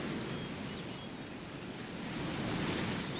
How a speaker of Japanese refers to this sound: いい風が吹いてるな。見上げれば青い空、目の前に広がる青い海。